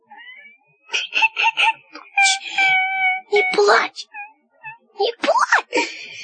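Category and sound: human body sound, child crying and wailing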